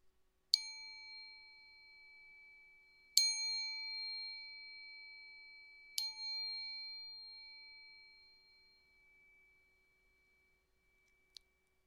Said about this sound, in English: Let's allow the sound of the bowl chime to bring us into the present moment. The first chime to let go of the past. The second chime to let go of the future. And the third chime to bring us into the present moment.